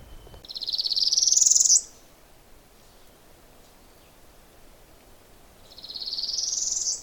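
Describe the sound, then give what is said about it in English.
Two rising, scratchy buzzy trills from a northern parula warbler, each about a second and a half long, separated by a quiet pause, clear over faint background hiss. “There, I was waiting for that sort of scrapey sound. It's a bird song. It's a warbler song. The warbler is called a parula, or some people say parula, or some people say parula.”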